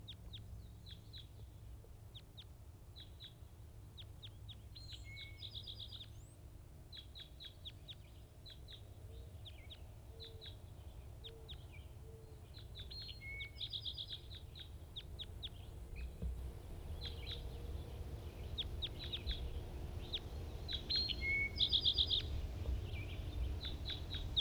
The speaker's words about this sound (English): Recording wild bird.